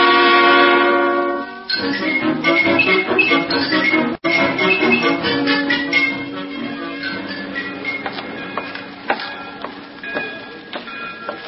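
train rolling with horn

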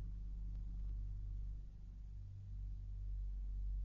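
truck engine rumbling

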